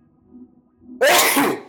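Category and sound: human body sound, sneeze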